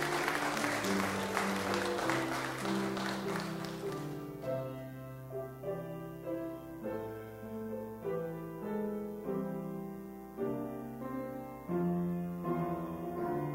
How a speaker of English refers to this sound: U.S. Coast Guard. Clap for them too.